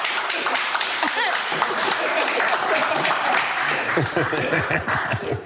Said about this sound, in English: What the hell are you clapping for?